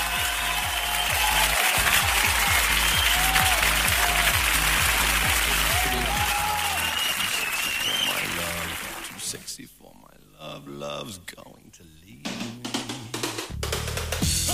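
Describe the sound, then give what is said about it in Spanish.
A loud, dense applause sound effect of a crowd, played from a button, fills the first several seconds, a steady wash of clapping that then drops away as voices take over. “Ahí sí era el aplauso, no la risa.”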